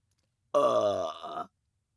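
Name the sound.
burp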